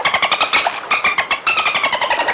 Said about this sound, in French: Le dauphin siffle.